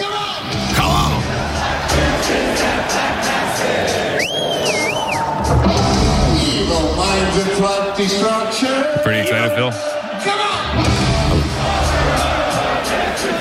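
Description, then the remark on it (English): A large, loud concert crowd sings along, roaring and chanting together in a continuous wash of voices, with a shrill whistle cutting through midway and a man speaking briefly over the din. “One of those shows where the whole crowd sings along.”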